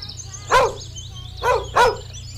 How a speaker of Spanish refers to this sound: Era una mañana cálida cuando de repente el perro empezó a ladrar. Ladraba como todos los días. A la mañana, a la tarde, a la noche, el perro siempre ladraba.